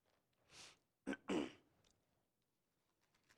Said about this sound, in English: I got this sinus thing going. I apologize for clearing my throat so much.